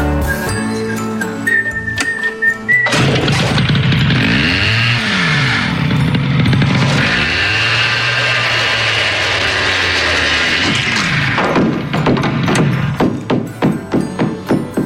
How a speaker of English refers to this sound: He's walking around with a hat on and a chainsaw. He's just sawed off.